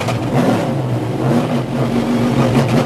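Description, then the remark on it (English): A loud engine of a Camaro-bodied Trans Am 1 race car rumbles with a steady, throaty drone and slight surges in pitch, running continuously throughout with no voices. “That's a loud vehicle”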